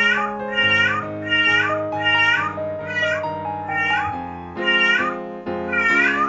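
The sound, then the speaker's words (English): A cat in heat yowls loudly and insistently, about eight long drawn-out meows in a steady rhythm, with a sustained tonal drone running underneath the calls. “Horny cat is horny.”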